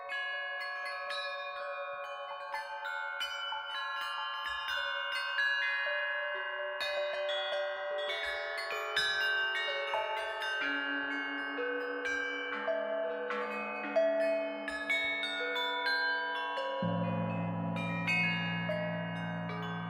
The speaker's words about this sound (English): perhaps a bell that's used only in sacred spaces or for meditation, and having those different kinds of functional instruments ringing together